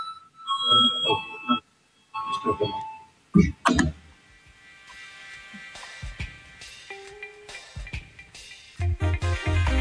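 parliament voting bell

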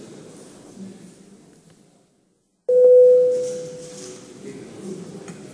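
parliament voting bell tone

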